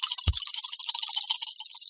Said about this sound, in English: I love all these dice out. I just dropped one.